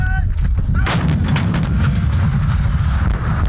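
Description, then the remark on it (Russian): Heavy artillery fire from a Ukrainian Navy artillery brigade during drills by first-line reservists at a firing range booms out with deep, rumbling low-end blasts, a few sharp cracks cutting through early on, then a sustained thundering roll that stays loud throughout. “Учения на полигоне в артиллерийской бригаде проходят резервисты первой очереди, преимущественно те, у кого уже есть боевой опыт.”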